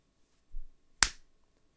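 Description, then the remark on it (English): A single sharp slap on a blindfolded person's face, a bright crack with a short ringing tail, comes just after a soft, low thud. No voices are heard. “So you couldn't see me slapping your face, no?”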